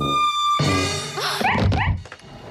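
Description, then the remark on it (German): A neighbour's dog looking in through a shop window barks in alarm, a quick run of loud, sharp barks and yips with no one talking. “Durch das Schaufenster guckt plötzlich der Hund der Nachbarin herein und schlägt Alarm.”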